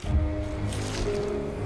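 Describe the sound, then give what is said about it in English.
A wet squelching sound of a woman driving a sharp hair needle into the jugular of her own neck, with a low fleshy squish that lingers briefly and then settles into a dull, muffled resonance. “With a clenched fist, she brings the point down towards her neck and drives it into her jugular.”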